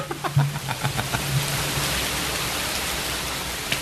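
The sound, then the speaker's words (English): Steady rain falls in a dense, continuous hiss, with a few brief tapping drops near the start before settling into an even, moderately loud downpour. “Now it's just rain.”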